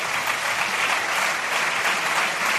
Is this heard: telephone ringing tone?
no